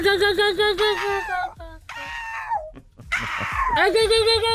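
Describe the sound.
A woman imitates a seagull's cry with a series of loud, shrill, wavering squawks that slide downward in pitch, delivered in several bursts with brief gaps.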